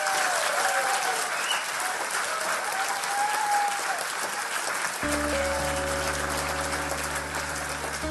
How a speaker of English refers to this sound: And ladies and gentlemen, please give a massive round of applause to Professor Lance Workman.